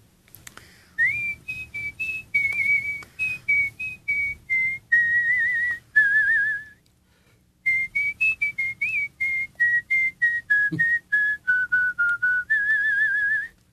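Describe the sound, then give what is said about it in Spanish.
A person whistles a melody, clear, in two phrases of short, rhythmic notes that rise and fall, with a brief pause between them and no talking. “de repente la sorprendemos con un silbido muy bien entonadito.”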